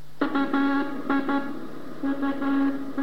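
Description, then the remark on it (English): Morse code signal groups keyed on a buzzy, reedy tone: two quick dits and a longer dah, repeated in three groups with brief pauses between them, with no voices; a 3-1-3 group marking the beginning of a frame. “Those Morse code groups, which we'll play them, you can hear them.”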